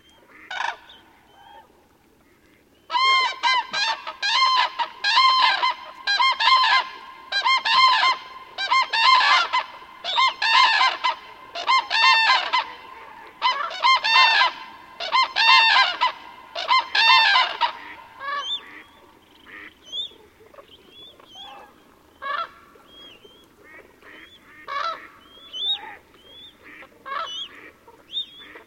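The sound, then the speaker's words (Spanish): A flock of cranes resting on the shore trumpets loudly on a dark night, overlapping rough, bugling calls in dense repeated bursts, then thinning into softer, higher whistling calls from young cranes born last spring, scattered over the final seconds. “Posadas en las orillas, las grullas no se resignan al silencio.”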